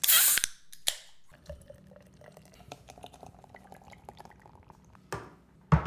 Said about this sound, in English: Let's crack open the Guinness. Give it a good tap there